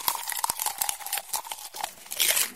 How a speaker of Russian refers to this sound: Хрум-хрум-хрум, чок-чок-чок, я книжный червячок. Хрум-хрум-хрум, чок-чок-чок, я книжный червячок.